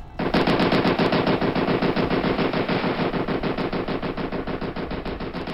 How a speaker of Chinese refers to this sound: 汪烈兵手中的加特林喷吐着火光，一瞬间几十发子弹打在影子身上，火光溅起，影子重重摔倒在地上。加特林仍然没有停止的意思，子弹壳疯狂地排出